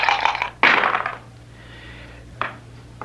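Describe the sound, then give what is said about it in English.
Dice rattle and clatter onto a backgammon board in a few quick bursts, rolling a pair of 5s: a loud tumbling roll followed by a softer rattle and one last short clack, with no talking. “On the pair of 5s I just rolled, I must double again.”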